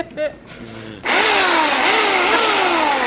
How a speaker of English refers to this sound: Not because of the chainsaw. Give it another rev. Yeah, hold on.